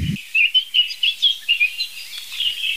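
Birds chirp and trill outdoors in a quick, repeated series of high, bright calls, with no voices over them.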